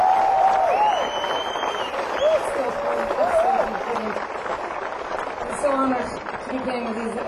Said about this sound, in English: So I think the lads deserve a huge round of applause.